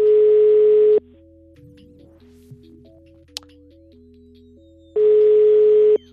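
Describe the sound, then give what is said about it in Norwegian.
A phone ringback tone sounds in two long, loud bursts about four seconds apart, with a quiet line hum and a faint soft melody in the gap between rings. “Her er det rett på ringetone, gitt.”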